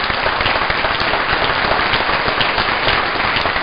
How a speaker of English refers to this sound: We have reason to be proud. You should give yourself a round of applause.